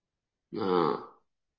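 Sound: burping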